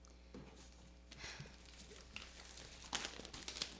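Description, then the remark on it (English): Soft, crisp rustling and crinkling of the pages of the Wall Street Journal newspaper being handled, with a few sharper crackles toward the end; quiet, with no voices. “Look, it is even on here on the front of the Wall Street Journal.”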